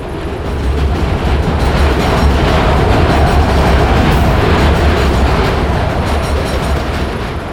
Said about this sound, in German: Ein Zug. Duck dich.